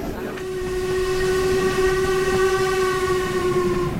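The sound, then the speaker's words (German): A steam locomotive crosses a viaduct in a right-hand curve, sounding one long, steady whistle over the low, continuous rumble of the moving train, fairly loud, with no talking. “Die Dampflok legt sich über der Brücke in eine Rechtskurve.”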